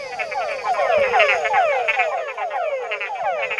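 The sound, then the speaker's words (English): A dense chorus of small, inch-and-a-half-long male tungara frogs calling at dusk, overlapping downward-sweeping whines repeating in quick succession, loud, with no voices present. “These are male Tungara frogs, small inch-and-a-half-long creatures quite dear to Ryan, who's a herpetologist at the University of Texas at Austin.”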